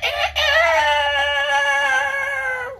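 A rooster crows once, loud, with a short opening note followed by a long, strained, sustained call that cuts off abruptly after a few seconds.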